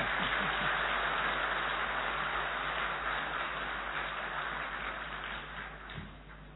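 A crowd applauds steadily, dense overlapping claps forming a continuous rush of noise that holds for several seconds before tapering off at the end, with a faint low hum beneath.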